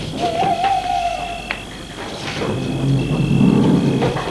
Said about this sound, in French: Et derrière la cloison, on entend les vaches.